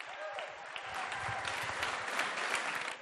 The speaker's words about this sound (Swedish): Visst är de bra, de som sjunger. Ge dem en applåd. Kom igen!